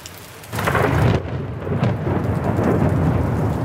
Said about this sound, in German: Dunkle Wolken hängen über der Stadt, Regen prasselt auf die Straßen von Rom. Es blitzt und donnert.